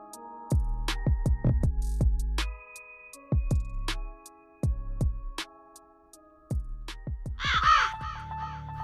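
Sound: raven cawing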